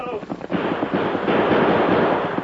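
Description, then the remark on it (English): A dense, unbroken barrage of gunshots in a radio drama gunfight crackles and booms for the whole stretch, loud and rough, with a voice briefly audible at the start before the firing swamps everything. “I keep shooting, but they don't stop.”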